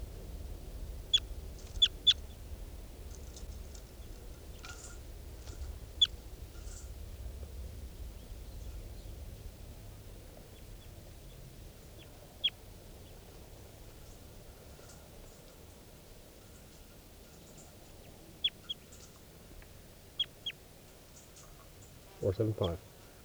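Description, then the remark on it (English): Wild birds call in the background, giving scattered, brief high chirps every few seconds over a steady low rumble of background noise, with a short louder burst near the end. “.475 and the wild birds in back, and 387 on the side.”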